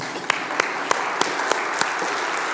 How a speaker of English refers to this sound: This is the 20th year that you have been supporting the work in Ghana. Greatly. I think you should clap for yourselves.